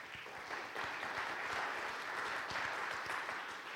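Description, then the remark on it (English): An audience in a church sanctuary claps for the tutors of the Learn to Succeed tutoring program at Marvin Pratt School: dense overlapping hand claps forming a continuous, fairly loud patter with no voices, holding even for the whole stretch. “That went from a smattering to an actual applause.”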